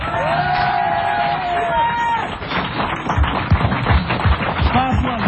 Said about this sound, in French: Je voudrais aussi qu'on applaudisse celui qui est venu nous rendre visite. Il était là le jour de la première. Le voici là pour la dernière, mesdames et messieurs. Élie Zemmoun.